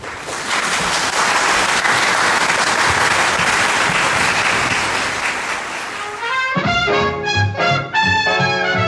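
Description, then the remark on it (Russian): A concert audience claps loudly in a dense, steady wash of applause for about six seconds, then it cuts off as music starts playing. “Спасибо, что пришли к нам, и я пожелаю, чтобы ваш концерт прошел в такой теплой обстановке и были громкие аплодисменты.”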